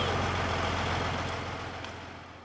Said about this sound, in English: Meanwhile, the oil industry is trying to maintain good relations with the community, staging events like this Energy Festival Parade in downtown Williston. Industry rigs and trucks of every description roar by as drivers throw candy to the kids.